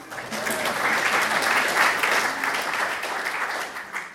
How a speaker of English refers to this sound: You guys can clap.